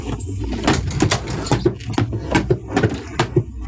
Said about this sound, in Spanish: El capitán empuña con más fuerza la escuadra y abre la puerta de un golpe.